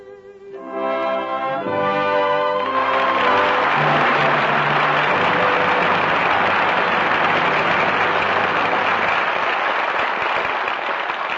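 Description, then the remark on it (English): A closing orchestral chord fades into loud, sustained applause from a studio audience, a dense wash of clapping that continues steadily for about nine seconds with no talking, calling back five stars after their performances. “Applause calls back five stars, who gave five brilliant performances tonight.”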